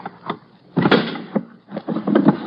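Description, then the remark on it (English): A locked drawer is wrenched open with a rapid series of loud rattling thumps and scraping jolts, each burst ending abruptly, with no voices. “Let's just force it open.”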